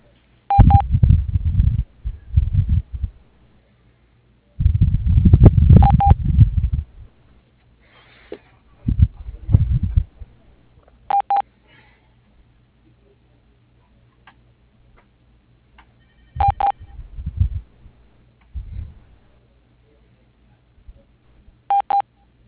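A telephone ringing in short electronic tones, repeating roughly every five seconds, with muffled low thumps and rumbles between them and no talking.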